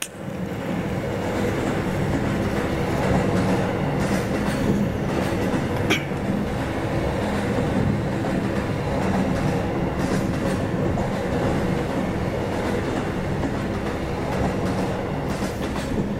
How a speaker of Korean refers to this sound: 네, 열차가 이렇게 쉬지 않고 달려왔습니다. 이 기차는 종착역에 도착했습니다.